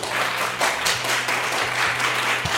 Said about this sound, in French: Et donc, vous pouvez applaudir votre professeur.